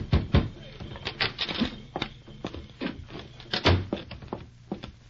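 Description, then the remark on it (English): A United States soldier knocks on the wooden door of his commanding officer's quarters at the Darlington Agency near Wounded Knee Reservation, South Dakota, just past sundown on a crisp fall day in 1890: sharp, fairly loud knocks in uneven bursts over several seconds, with a low steady hum underneath and no clear speech. “It was just past sundown of a crisp fall day in 1890 when a United States soldier stationed at the Darlington Agency near Wounded Knee Reservation in South Dakota knocked on the door of his commanding officer's quarters.”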